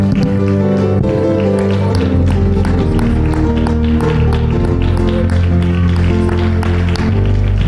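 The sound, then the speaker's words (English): A church audience claps along in a steady rhythm and shouts praise to the Lord over loud, sustained music, with raised voices blended into the dense wash of sound throughout. “Let's clap our hands and give a great shout of praise to the Lord.”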